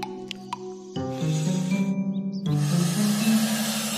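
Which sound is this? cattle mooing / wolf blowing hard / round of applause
wolf blowing hard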